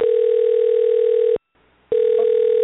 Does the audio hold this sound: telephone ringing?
yes